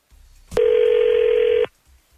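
A telephone call placed by a radio show rings out: one loud, steady electronic ring tone lasting about a second, starting with a click and cutting off abruptly, with no voices around it.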